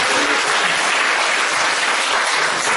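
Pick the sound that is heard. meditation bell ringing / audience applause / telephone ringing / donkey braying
audience applause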